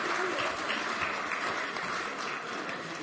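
A group of people applauding, a dense steady patter of many hands clapping at once, fairly soft and even throughout with no voices over it.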